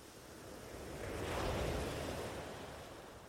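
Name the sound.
gentle sea waves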